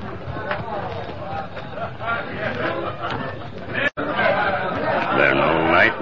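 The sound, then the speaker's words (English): A busy murmur of many men's voices chattering inside a cafe, overlapping at once, steady and fairly loud, with no single voice standing out, briefly cut off before resuming. “Sound like many feller in cafe.”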